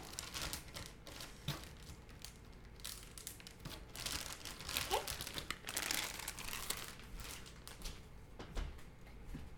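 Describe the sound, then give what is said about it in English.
A plastic Ziploc bag holding hash browns crinkles and rustles in irregular bursts as the air is pressed out and it is sealed, the crackling swelling louder midway before settling back to soft handling noises. “Let's get all the air out. And we're gonna Ziploc bag.”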